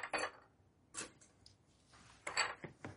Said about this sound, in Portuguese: Tá, então, copo, vou colocar gelo aqui.